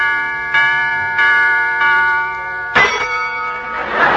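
A clock strikes four times, each ringing chime following the last at a steady pace with long overlapping overtones. The strokes are fairly loud, the final one sounding slightly brighter.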